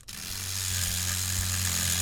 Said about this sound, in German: arbeitet Sabah Khalegi gerade mit einem feinen Bohrer an einem Motor, der zu einem kleinen Stoffaffen gehört